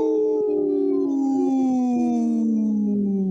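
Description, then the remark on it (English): A person imitates a wolf, letting out one long, loud, sustained howl that slowly slides downward in pitch for a few seconds, with no talking around it. “And we're, you know, we just howled,”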